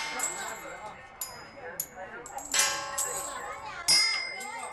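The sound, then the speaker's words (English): A coin strikes a bell at a temple complex in Beijing, China, producing two bright metallic dings that ring out and linger, set against a busy background of crowd chatter and children's voices. “Hit the bell with a coin. The bell sound brings good luck.”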